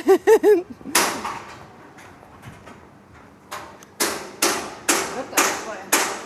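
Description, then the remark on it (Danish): Sharp hammer blows ring out: a single knock, a pause, then a steady run of five evenly spaced strikes. A brief voice is heard at the very start. “Gidder du også bare ikke banke en bitteliten stund?”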